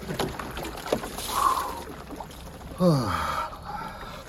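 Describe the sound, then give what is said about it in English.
Crackling and sloshing of ice being broken on water just above freezing, about 32.4°F, on a 5°F (-15°C) morning, with sharp creaks and a couple of squealing, descending tones as the pieces grind together; no one speaks. “Already broke the ice. You're watching that or hearing that again.”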